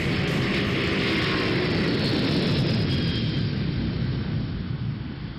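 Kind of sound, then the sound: vehicle, airplane engine flying overhead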